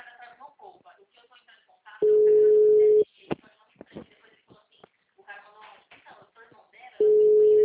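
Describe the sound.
A steady, mid-pitched telephone tone sounds in two loud one-second pulses several seconds apart, as a call is being dialed, with people talking quietly between the beeps.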